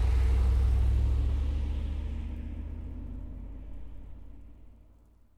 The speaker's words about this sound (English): Look at that bus. It's going to go to the beach.